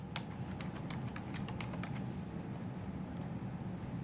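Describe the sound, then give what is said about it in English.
A quick burst of about a dozen crisp computer keyboard keystrokes over a steady low hum, then the typing trails off to one or two faint taps. “I need to know how to use this keyboard.”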